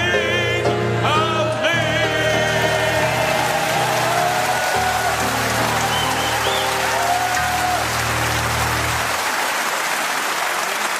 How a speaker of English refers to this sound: Barry Cryer, it's good of you to applaud, but he doesn't know we're here.